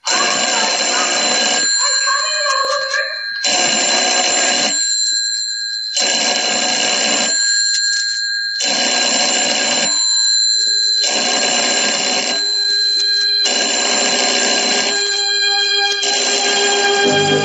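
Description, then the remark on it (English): A telephone rings repeatedly in an empty house, in loud, regular bursts of bright bell-like trilling, each lasting about two seconds with brief gaps between, clear with no voices. “Telephone ringing, ringing in an empty house.”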